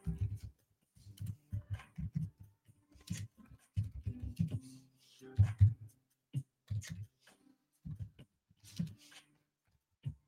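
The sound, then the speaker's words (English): Irregular bursts of soft clicking and tapping from a computer keyboard as Psalms 82 is typed in, keys struck in quick clusters separated by brief pauses, with no voices. “Just typing this in here.”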